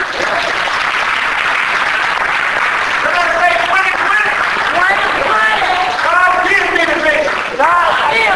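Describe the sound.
A church audience gives God a hand clap during a sermon, a steady, dense wash of applause that holds at an even loudness throughout, with scattered voices calling and cheering over the clapping.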